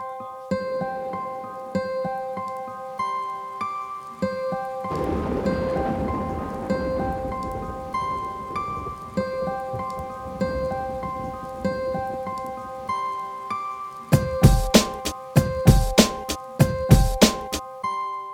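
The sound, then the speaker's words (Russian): Steady rain hisses beneath sustained, ringing musical tones, swelling into a denser patter midway, then giving way to a series of sharp, loud thunder cracks near the end. “Непонятные ноты отбивают для меня твой дождь.”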